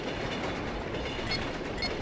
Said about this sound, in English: Train entering sector. Here's the train. Let's just listen, shall we?